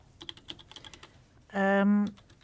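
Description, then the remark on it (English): Quick, light tapping on a laptop keyboard that doesn't work, a scatter of clicks for about a second and a half, followed by a loud, steady electronic buzz-beep that cuts in and holds briefly. “This keyboard doesn't work at all.”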